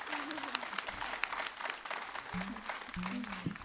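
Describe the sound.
An audience applauds steadily for a saxophonist being introduced, a dense wash of many hands clapping, with a low voice or held tones sounding briefly over it near the start and again toward the end.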